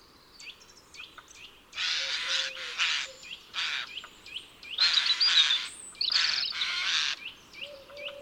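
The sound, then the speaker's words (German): A Eurasian jay in an oak, after storing acorns in a hollow of the tree for winter, gives a series of harsh, shrill screeches in uneven bursts, loud, with smaller birds chirping and whistling faintly around it. “Seine Speisekammer ist schon ziemlich voll für den Winter und es scheint, als wolle er mit seinem schrillen Kreischen seine Genugtuung über die geleistete Arbeit mitteilen.”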